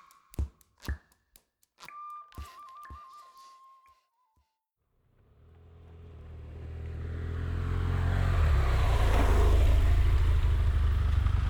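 At the Pintre-Roux, La Serviane bus station, a few sharp clicks and a brief wavering whistle-like tone, a short pause, then low traffic rumble that steadily swells as a heavy engine approaches and grows loud, with no talking.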